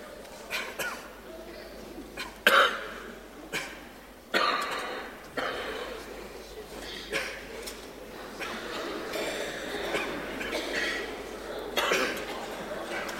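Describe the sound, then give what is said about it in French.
Several sharp coughs and throat-clearing sounds break out at irregular intervals, some louder than others, over a faint background murmur. “Les toussements, c'est peut-être le commencement des chansons.”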